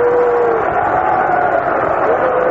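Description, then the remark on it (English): A big stadium crowd at a baseball game between the National League and the American League makes a loud, steady roar of voices, unhappy at a delay while the umpires change positions. The roar holds unbroken for a few seconds, with a low drawn-out droning tone running through the din. “Now the crowd doesn't like the delay.”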